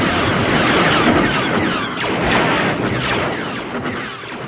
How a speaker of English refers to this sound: He found this great wire out in the middle of the desert and took a contact microphone out and put it on the wire and started hitting it with a wrench. And what he got were the bass of the blaster sounds for Star Wars.